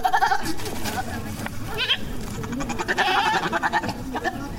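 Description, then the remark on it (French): Goats bleat in wavering, nasal cries against a steady outdoor background, with several overlapping calls and a voice speaking underneath; about ten cattle and goats kept in front of a yard in Burkina Faso. “garde une dizaine de bœufs et de chèvres devant sa cour.”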